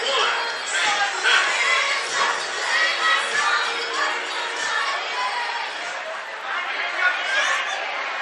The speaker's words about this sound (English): Sold out crowd plus some here at TVA Credit Union Ballpark.